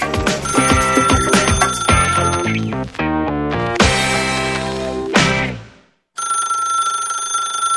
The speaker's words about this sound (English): I can't believe my phone still rings. So crappy.